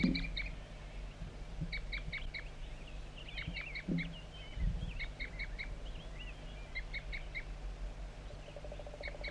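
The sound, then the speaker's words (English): A wild bird feeding on cones that were put out repeats short, high toop calls in quick clusters of three or four notes, recurring throughout over a steady low rumble. Nobody speaks. “Continues toop by the wild bird, also joined frequently by 4-3.”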